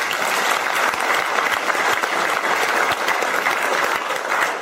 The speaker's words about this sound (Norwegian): Velkommen igjen. Applaus.